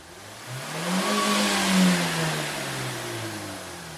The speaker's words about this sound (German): Wir können ja mal einen Motor aufheulen lassen.